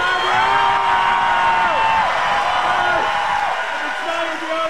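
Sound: crowd cheering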